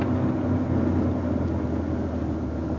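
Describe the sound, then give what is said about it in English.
A car engine rumbles steadily, a continuous low drone with even loudness throughout and no voices, as a car eases along and pulls up and stops at the coroner's. “Oh, darling, pull up.”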